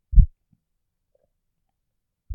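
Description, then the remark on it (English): A slow human heartbeat: deep, muffled low thumps spaced about two seconds apart, the first followed by a faint softer beat, with silence between and no talking. “Just listen to each slow, rhythmic beat of my heart.”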